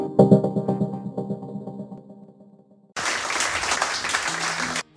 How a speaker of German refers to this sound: Der Applaus gilt natürlich nicht mir,